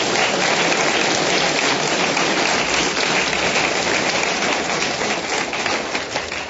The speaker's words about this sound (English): Well, thank all of you. Let's everyone please give a round of applause for our panelists.